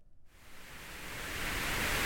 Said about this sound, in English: Perhaps the soothing sounds of white noise.